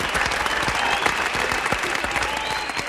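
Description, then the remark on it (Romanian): Sustained audience applause at the start of a new edition of a show, a dense wash of many hands clapping steadily at an even, fairly loud level throughout, with no voices standing out. “Aplauze, aplauze, aplauze, vă rog!”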